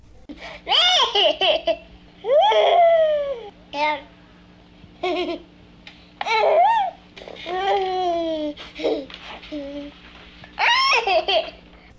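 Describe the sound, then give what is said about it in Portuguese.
A baby laughs in repeated bursts of high, squealing giggles and belly laughs, fairly loud, with short pauses between each bout and no talking. “Mas isso não é um animal, Dani, é um bebê.”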